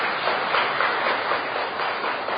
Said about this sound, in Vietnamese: Giỏi, cho tràng pháo tay.